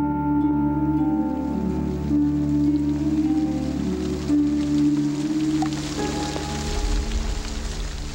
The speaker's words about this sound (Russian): Ночью, наконец, хлынул дождь. Ливень. И так застучал в окно и по железной крыше, что Никита проснулся, сел в кровати и слушал, улыбаясь. Чудесен шум ночного дождя.